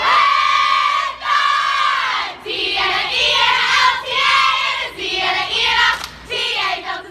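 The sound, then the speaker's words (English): Sorority members chant loudly in unison in the doorway of a sorority house, greeting freshmen during rush; their high-pitched voices rise and fall in rhythmic, sing-song phrases with short breaks between bursts, energetic and continuous throughout. “During the first round of rush, freshmen visit the sorority houses, where they're greeted by sorority members chanting in the doorway.”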